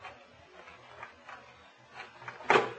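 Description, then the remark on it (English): Someone quietly picks at a door lock: faint scratching and small metallic clicks, then a sharper clunk as it gives near the end. No one speaks. “Now, both of you boys keep quiet when I work on this door.”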